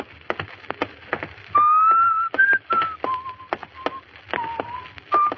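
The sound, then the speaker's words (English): A person whistles a wavering, melodic tune out on a hot street, clear, with held notes sliding up and down, while sharp rhythmic clicks like footsteps tap steadily underneath. “Stop whistling that. It gets on my nerves.”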